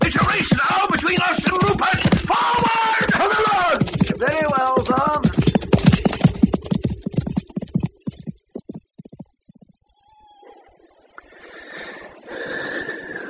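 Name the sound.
horse hooves galloping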